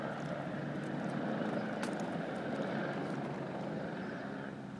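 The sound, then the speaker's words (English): A steady, rumbling aeroplane engine drone overhead as the plane keeps circling, holding at an even level throughout with a broad, slightly rough roar and no voices. “I think that's just another aeroplane I can hear.”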